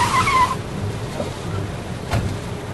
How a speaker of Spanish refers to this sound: Y de repente llegaron 2 autos al lugar.